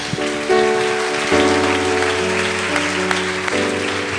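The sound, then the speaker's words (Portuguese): An audience applauds for Jesus in a steady, dense wash of clapping that holds throughout, with sustained organ or keyboard chords changing underneath. “Vamos dar uma salva de palmas para Jesus, amém?”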